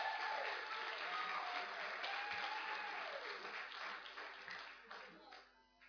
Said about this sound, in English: And I'd like you to give a round of applause.